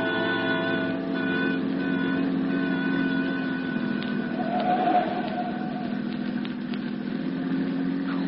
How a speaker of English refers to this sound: Look, relax in this mess of traffic. Must be a wreck or something up ahead.